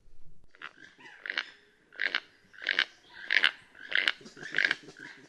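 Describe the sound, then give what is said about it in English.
A rhythmic series of about eight croaking, grating calls from two keel-billed toucans calling back and forth in the Guatemalan rainforest repeats steadily at roughly half-second intervals, with soft low huffing sounds from a coatimundi underneath; recorded by biologist Greg Budney of the Cornell University Laboratory of Ornithology. “What we're hearing are two keel-billed toucans, spectacular large toucans, calling back and forth to one another. And in the background, something that attracted my attention is this huffing sound, which I immediately realized was not a bird”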